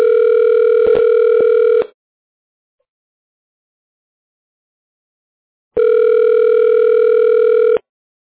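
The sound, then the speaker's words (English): A telephone ringback tone rings twice while a call is being transferred, each steady electronic burst lasting about two seconds with a long silent gap between, clear as if heard through a phone line. “Thank you for holding. We appreciate your patience. Your call is being transferred.”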